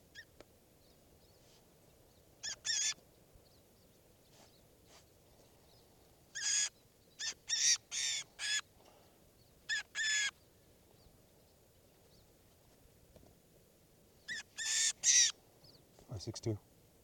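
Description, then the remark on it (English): A recorded bird call, labelled as bird 563: about ten harsh, raspy calls in irregular short bursts, some in quick pairs, over a faint steady hiss with quiet gaps between. “This is bird 463.”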